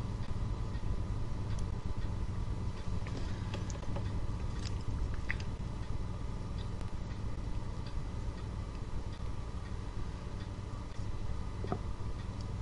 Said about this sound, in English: That clock noise. That's mine. It's kind of soothing for this joke call.